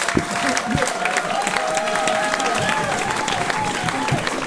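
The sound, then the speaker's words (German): Steady applause from a concert audience, dense clapping filling the whole stretch at an even loudness, with faint crowd murmurs and a thin sustained tone threading through underneath. “Aber eigentlich gilt ja der Applaus euch, weil ihr habt ja Eintritt bezahlt.”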